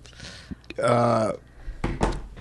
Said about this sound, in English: Bless you. Really? So now you're going to just start sneezing.